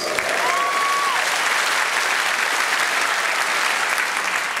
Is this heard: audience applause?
yes